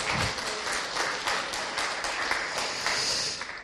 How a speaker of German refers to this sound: Das war ein Dankklatsch, kein Konzertklatsch, ne? Das wollen wir ganz klar haben, ne?